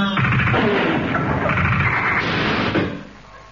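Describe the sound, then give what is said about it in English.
A loud, sustained crash as someone slams into a closed glass door, a dense rattling clatter lasting nearly three seconds before it quickly dies away. No voices. “It was a glass door and she'd neglected to open it.”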